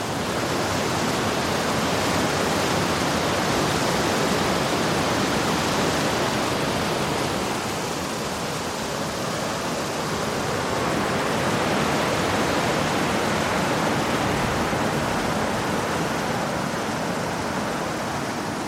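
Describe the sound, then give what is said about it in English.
A waterfall at Inversnaid roars steadily, a dense, unbroken rush of pounding water that holds nearly constant in loudness throughout, with no voices over it. “And there's a cracking waterfall there. Listen to that.”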